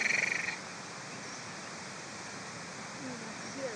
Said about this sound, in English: If you listen behind us, you can hear occasional krrrr of crickets. Oh, yeah. You hear them? Yeah, if I feel my ear like that. Turn round. There go the crickets.